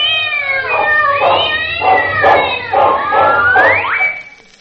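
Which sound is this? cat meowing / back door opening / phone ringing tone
cat meowing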